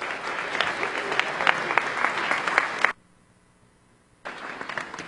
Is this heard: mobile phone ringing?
no